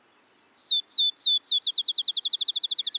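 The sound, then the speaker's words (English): A field sparrow sings a bouncing ping-pong-ball song, clear: a few slow, drawn-out high whistles that speed up into a rapid run of short, quickening notes, with no talking. “for the field sparrow's song, which sounds like a ping pong ball bouncing and then coming to rest.”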